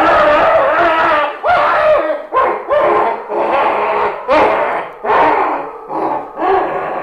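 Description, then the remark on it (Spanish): A monstrous tentacled creature screams in terrible hatred after its eyes are blinded, a rapid run of harsh, snarling shrieks and roars, several loud bursts in quick succession, with no talking. “El ser gritó con terrible odio, llevándose un tentáculo a los cegados ojos.”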